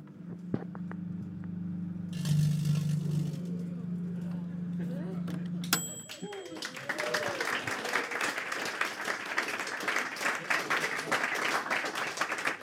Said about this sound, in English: So I'll turn on the microwave. This should cause lots and lots of electric currents to flow inside the crisp packet, and that might make it a bit warm.